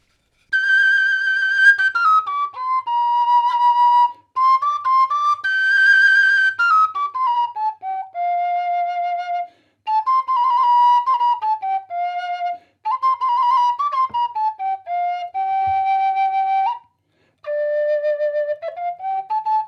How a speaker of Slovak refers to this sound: Šesťdierková píšťalka je dobrý nástroj. No. Keď idem na prechádzku tuto hore kopcom, tak si zoberiem do vrecka a popiskujem si, idem sa, nikoho nevyrušujem.